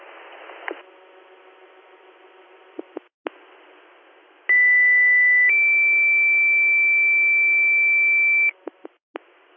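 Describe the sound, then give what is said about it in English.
A loud two-tone fire dispatch page for Tripsburg Fire over a scanner radio: one steady tone for about a second, then a higher held tone for three seconds, framed by squelch clicks and hiss. “Yes, could you hit our tones one more time, please?”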